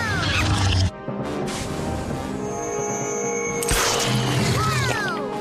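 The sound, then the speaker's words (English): A monkey on a person's head chatters and shrieks, its squeals rising and falling amid loud scuffling and thumping, with a brief crash partway through and a busy, cluttered background throughout. “There's a monkey on my head.”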